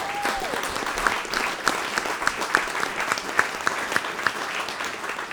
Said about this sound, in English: Give him a big round of applause, please.